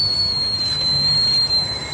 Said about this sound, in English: See, there's steam coming out of our tea kettle. This is so exciting. Listen. Ooh. It's a tea kettle fart. It worked.